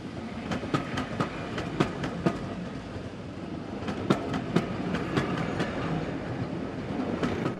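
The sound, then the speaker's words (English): The historic steam locomotive Flying Scotsman and its dozen or so maroon carriages rumble past a line of milk churns at the end of a short platform, a low continuous roar punctuated by sharp rhythmic clacks of wheels over rail joints, fairly loud. “The historic locomotive and its dozen or so maroon carriages rumble past a line of milk churns at the end of the short platform.”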